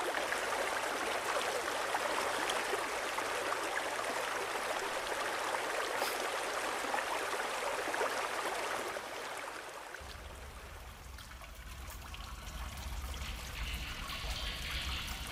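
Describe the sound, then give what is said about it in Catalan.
A river flows steadily with a broad, rushing hiss as it is swallowed by a mountain, then about two-thirds through it shifts to a quieter, lower trickle with a deep rumbling undertone. No voices are heard. “El riu és empassat per la muntanya.”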